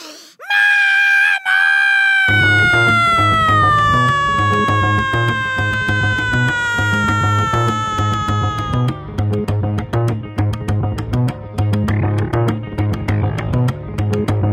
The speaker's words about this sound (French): À peine ont-ils touché la poignée de la porte que les 6 petites œgresses se réveillent. Elles sont à l'équerre dans le lit, elles ont les yeux rouges, les dents qui bavent et se mettent à hurler.